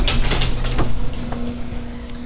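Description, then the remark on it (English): A sliding sci-fi pod bay door rushes shut, a brief swishing slide ending in a soft thump, with a steady low hum underneath and no voices. “Close the pod bay door, Hal.”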